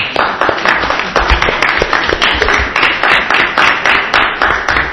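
Steady applause from an audience at a public proceeding, a dense patter of many hands clapping at an even, sustained level throughout with no voices standing out.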